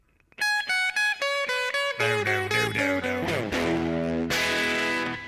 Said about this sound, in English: I wonder how many distinct guitar tones there are in this song. That was three right there.